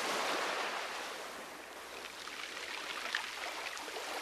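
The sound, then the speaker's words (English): Soft waves wash steadily onto the beach of Saxe Harbor, with no ice in sight on the sea, a broad hiss of surf that swells and recedes gently with no voices. “On the beach of Saxe Harbor, gentle waves lap the shore.”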